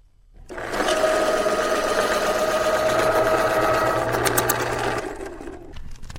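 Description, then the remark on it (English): A pencil being sharpened in an electric sharpener, a sound of going back to school in South Florida: a steady motorized whir with a gritty grinding edge lasting about four seconds, then cutting off, followed by a few faint clicks. “It's the sounds of going back to school today, sharpening a pencil, the ruffle of paper, zipping up the backpack, heading out the door.”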